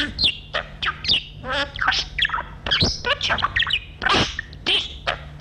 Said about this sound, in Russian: Птичка, это птица, Петрович.